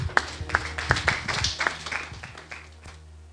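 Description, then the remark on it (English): A group claps hands together, sharp claps landing in a loose, irregular rhythm over a steady low hum, then thinning out and fading toward the end. “Clap your hands, please.”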